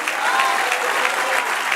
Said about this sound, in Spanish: Dale un aplauso a Dios.